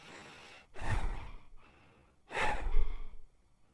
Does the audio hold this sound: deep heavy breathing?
yes